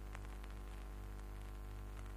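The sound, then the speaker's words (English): Steady crackling radio static with a low electrical hum underneath, faint and continuous, with brief bursts of hiss flaring up now and then and no voices. “The only sound's that belly static.”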